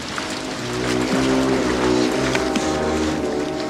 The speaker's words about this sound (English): Morgan swims after the launch as it motors away.